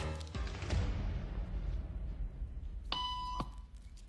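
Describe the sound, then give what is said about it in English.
A single electronic beep tone, the signal in a social conformity experiment, sounds for about half a second, clear and fairly loud over a low hum, with no one speaking. “if this woman would stand up at the sound of this tone”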